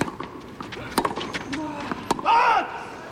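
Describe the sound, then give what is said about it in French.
Quick, irregular footsteps of ball kids shuffling back into position just in front of the ambient microphones on a tennis court during a match between Sabalenka and Svitolina, sharp scuffs with a brief high shoe squeak near the end, over faint murmuring voices. “Les appuis que vous entendez, ce sont les ramasseurs de balles qui se replacent juste devant les micros d'ambiance qui vous permettent de vivre pleinement cette rencontre sur Sound for All.”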